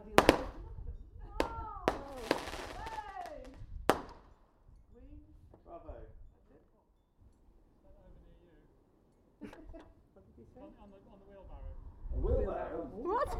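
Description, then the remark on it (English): Wheelbarrow fireworks explode outdoors, one over a pond, in a handful of sharp, loud cracks and bangs at irregular intervals, with a crowd of voices exclaiming and cooing in between and over the blasts. “Wheelbarrow fireworks.”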